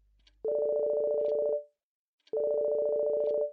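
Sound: mobile phone ringing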